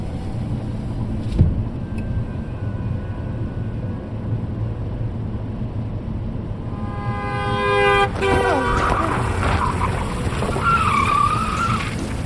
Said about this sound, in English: I rip the steering wheel around, pulling my car off of the rumble strip on the shoulder and back into the center of the lane